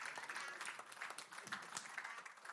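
A crowd applauds, with dense, steady clapping that keeps up for a few seconds at an even level, with no voices rising above it.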